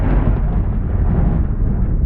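A loud, deep rumble of thunder rolls on steadily for a couple of seconds, heavy, with no sharp crack at the start and no voices.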